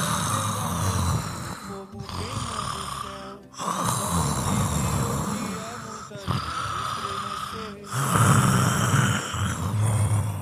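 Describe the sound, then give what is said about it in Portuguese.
A man lying on his back snores heavily in his sleep, stirring restlessly, about five long, rasping breaths with short pauses between, punctuated by snorts, loud. “se agitava, soprando e roncando.”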